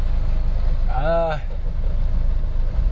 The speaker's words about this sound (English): Yeah, also another thing that's difficult to see is this traffic that I'm right in the middle of.